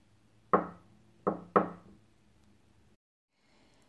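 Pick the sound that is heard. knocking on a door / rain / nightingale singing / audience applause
knocking on a door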